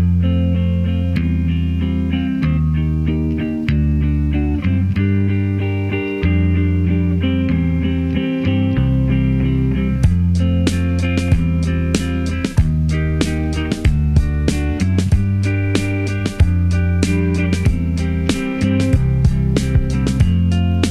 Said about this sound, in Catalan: aquesta és la banda …, amb el seu àlbum 2009, …, que ens deixem amb aquest tema tan maco